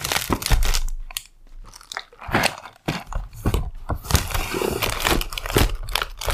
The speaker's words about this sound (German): Warte, ich packe das hier erstmal wieder zurück in die Tüte.